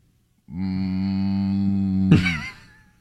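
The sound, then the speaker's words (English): A person gives a single long, low moo in imitation of a cow, steady and droning for about two seconds before ending in a brief breathy burst. “What noise does a pig make? What about a cow?”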